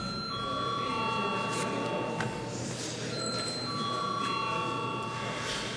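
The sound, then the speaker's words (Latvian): A loud, continuous electric bell rings steadily for several seconds without pause in the Latvian parliament (Saeima), calling members to vote on the finance minister's report. Its bright metallic tone sounds over a low murmur of people in the background. “Lūdzu zvanu.”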